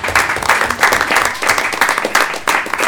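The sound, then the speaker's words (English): A round of applause from a group at a meeting for a year with no audit recommendations, dense overlapping claps sustained at a steady loud level for the full few seconds, bright and crackly with no voices standing out. “I really think that deserves a round of applause.”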